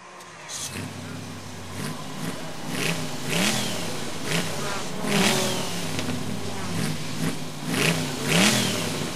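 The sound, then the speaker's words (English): A Formula One racing car engine revs up again and again in short bursts, its pitch sweeping upward each time against a steady mechanical rumble, loud. “Hello, I'm checking progress on the repairs to our Formula One car.”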